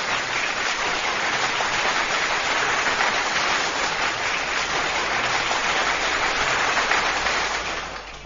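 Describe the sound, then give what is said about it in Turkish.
Steady, dense applause from a crowd of children in a classroom during a halay dance fills the whole stretch, many hands clapping at once in a continuous roar that fades slightly at the very end. “Alkışlar, alkışlar.”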